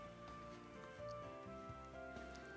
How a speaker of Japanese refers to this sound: 雨降る季節は本当に外に出るのが億劫になります。しかし、せっかくの家の中にいる時間、不思議と心が落ち着く雨の音を聞きながら、普段の自分の生活についてゆっくりと見つめ直してみませんか。